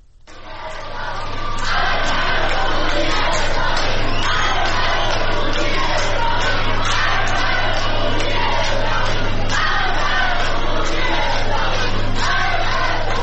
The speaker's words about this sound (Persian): در ویدیوهای منتشر شده در شبکه‌های اجتماعی افراد مختلفی از جمله گروهی از زنان دیده می‌شوند که در میان عده زیادی از مسافران حاضر در ایستگاه مترو شعار می‌دهند.